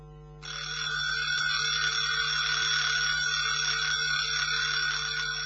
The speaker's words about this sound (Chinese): 不知过了多久，我被闹钟吵醒，睁开眼一看，已经是早上7点多钟了。